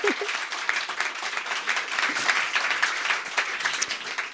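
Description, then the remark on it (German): Steady applause from an audience, a dense wash of many hands clapping at once, sustained and fairly loud throughout with no pause. “Diesen Applaus, kannst du Hammer haben.”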